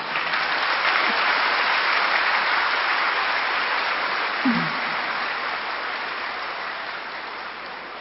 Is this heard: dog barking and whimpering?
no